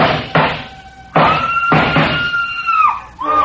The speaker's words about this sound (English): The scream filled the house, high and frenzied.